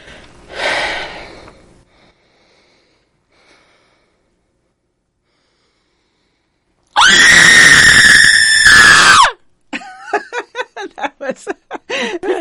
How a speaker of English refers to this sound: Would you give us a scream? Yeah. To stand up for it, though, I can't do. Okay, she's standing up. I can't do scream sitting up.